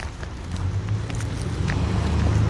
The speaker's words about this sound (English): Jeez, I thought that car was coming in my direction.